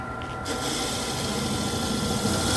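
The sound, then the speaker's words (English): A power sander switches on after a brief pause and runs steadily, a dense, loud whirring grind with a faint high whine, continuing without a break as it squares off the end of a block held in a jig on a rod perpendicular to the sanding surface. “Lock it down. Start it up. And then sand it off.”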